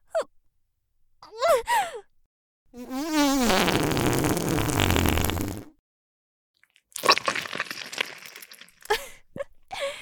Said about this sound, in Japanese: さあ、くっさいおならぶちまけちゃうわよ。